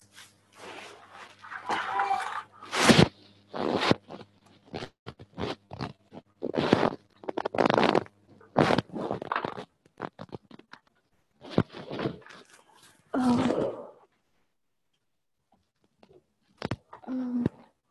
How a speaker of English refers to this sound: Just a minute, let me shut this door.